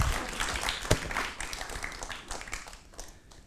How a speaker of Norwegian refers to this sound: Takk, Anton. Applaus.